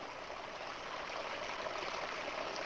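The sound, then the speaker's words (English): Steady, continuous splashing of three falling water streams in a Kelvin water dropper experiment, each inducer electrode attached to the barrel of a neighbor, a dense hiss with no pauses or distinct drops, moderately loud, with no voices. “Lord Kelvin's dynamo took yet another form in our introduction. Three streams, with each inducer electrode attached to the barrel of a neighbor.”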